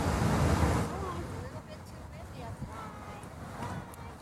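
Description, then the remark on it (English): Strong wind roars and buffets, loudest in a low rumbling gust at the start, then settling into a steady rush with faint, muffled voices underneath. “It's too windy.”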